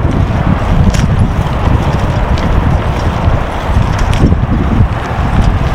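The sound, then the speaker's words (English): A bicycle rattles steadily over asphalt, having just moved onto it off gravel, a loud, continuous clatter of quick irregular knocks layered over a deep, rough rumble, with faint wind noise and no one speaking. “You probably mostly hear my bicycle rattle.”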